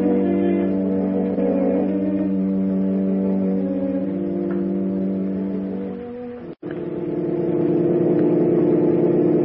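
A car brought round by a chauffeur in the evening pulls up, its engine rumbling steadily, then drops out for an instant before resuming at a slightly different pitch as it idles. No one speaks.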